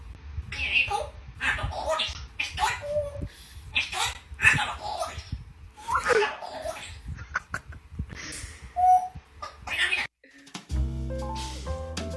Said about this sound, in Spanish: Tío, es increíble. Es un loro. Increíble. Diciendo esto. Es una lora que debe ser como superdotada, porque los loros no hablan y repiten y tal, pero suelen repetir. Pero es que esta puta lora tiene conversaciones, o sea, te contesta.